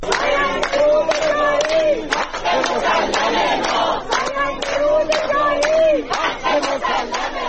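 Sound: protest crowd chanting slogans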